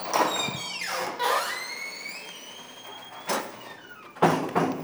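A door swings open with long, high-pitched hinge squeals that rise and slide in pitch, broken up by a few short rattling bumps, with no one talking.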